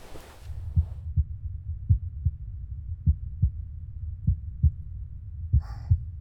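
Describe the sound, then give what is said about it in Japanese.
A steady human heartbeat, muffled, heard with an ear pressed to the person's chest, with about five paired lub-dub thumps at a calm, even pace over a low rumbling background, and a brief rustle near the end. “私の心臓の音、聞こえる？”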